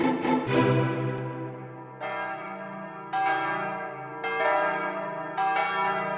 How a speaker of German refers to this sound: Ja, eigentlich ganz gut, aber um 12 haben mich die Kirchenglocken genervt. Ja, stimmt. Die beiden Kirchen sind ja gleich neben der Schule.